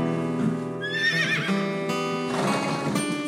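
A horse whinnies loudly, a high wavering neigh that rises and trembles before fading into snorting breaths, with no voices present.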